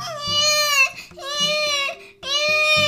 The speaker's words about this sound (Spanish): A las 4:15 de la madrugada en aquella mañana, en la casa número 11 de la plaza principal, en Markl Zul Inn, aquí en Baviera, se escuchó el fuerte llanto de un recién nacido.